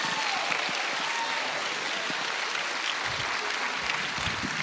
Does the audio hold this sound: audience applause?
yes